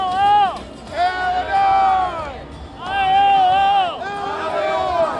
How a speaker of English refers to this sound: When the balloons dropped and the confetti fell following Trump's speech, Illinois' delegates to the RNC were loving it. In the moment, anyway, they were all united as … led them in a cheer.